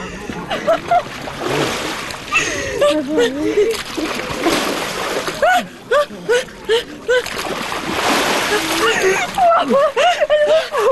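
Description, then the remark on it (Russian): Repeated splashing as people plunge into icy water at an Epiphany-night bathing font, with broad watery bursts throughout and excited voices and shouts mixed in. “Для нее омовение в ледяной воде уже традиция.”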